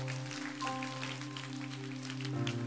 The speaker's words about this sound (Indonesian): Kita akan mulai ibadah ketiga jam 12.30. Berikan tepuk tangan dulu dong.